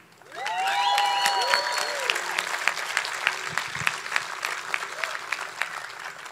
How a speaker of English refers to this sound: So it would make me super fucking happy if everybody clapped it up for each other.